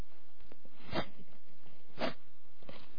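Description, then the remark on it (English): A voice imitates a cow chewing its cud with wet mouth-chewing noises: a few irregular smacking crunches, two of them noticeably louder, with no talking. “It's like a cow chewing its cud, or somebody chewing a bunch of gum.”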